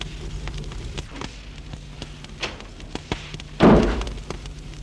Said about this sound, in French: Et la bonne a fermé la porte.